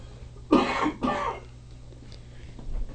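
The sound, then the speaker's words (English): Two quick, harsh coughs from a man with bronchitis, a chesty hack followed by a second rougher burst, then a quiet background hum with faint shuffling. “If … will survive this show, I don't know. And a cough drop. He's got bronchitis.”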